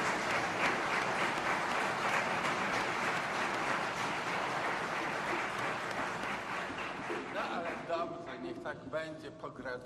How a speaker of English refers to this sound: But I'd like to first of all congratulate your parents, your near and dear ones, because it's owing to them, it's their merit, and I think this day especially they deserve a huge round of applause from all of us.